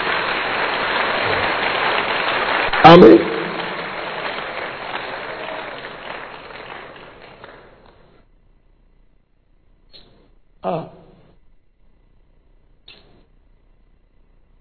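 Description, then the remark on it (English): A crowd applauds steadily for several seconds, clapping for Jesus, a dense wash of many hands clapping that gradually fades out, followed by a few scattered claps and a brief spoken word near the end. “Join those who are clapping for Jesus.”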